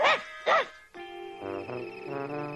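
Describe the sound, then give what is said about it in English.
A dog at a dog show gives two quick, sharp barks, then breaks into a longer, drawn-out whining yowl that wavers in pitch. No one speaks. “You've just won all this dog food. How does it feel to be a winner?”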